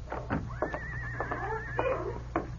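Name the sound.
horse whinnying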